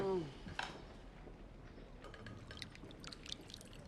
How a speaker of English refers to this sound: Lou pours the soup into two bowls, and Golda comes to sit down next to her.